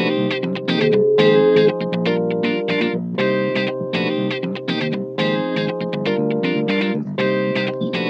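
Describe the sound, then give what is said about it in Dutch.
A short musical jingle introducing the show segment 'De stelling van Dick', with heavily processed, distorted and chorus-laden tones, playing loud and steady in punchy rhythmic bursts with no talking over it. “Ja, u hoort het al. Het is wederom tijd. Tijd voor de stelling van Dick.”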